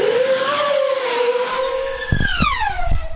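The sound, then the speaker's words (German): A loud, high-pitched motor whine from a small black high-speed racing drone with carbon-fibre propellers, which set a record at 700 km/h, streaks past, its pitch climbing and then dropping as it zooms by, with a few low thumps near the end. “Und so klingt dieser kleine schwarze Flitzer.”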